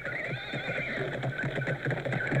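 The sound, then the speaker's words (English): A horse neighs with a long, wavering whinny while hooves clip-clop in a steady, quick rhythm, fairly loud, with no voices present. “jumps from his horse onto a carriage horse.”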